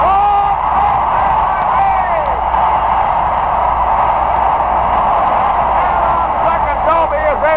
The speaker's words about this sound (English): Third, Willie Mays just brought this crowd to his feet with a catch, which must have been an optical illusion to a lot of people.